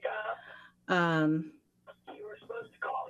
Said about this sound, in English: I'm sorry, my phone, I can't turn my phone off.